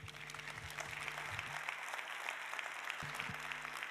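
Steady audience applause fills the whole stretch, a dense wash of many hands clapping at an even loudness with no voices on top.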